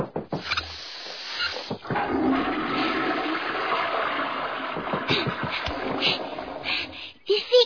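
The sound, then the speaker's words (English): A toilet flushes with a loud, sustained rush of water that swirls clockwise and gurgles for several seconds before draining away, ending with a couple of sharp clunks. “You're all draining clockwise, sir.”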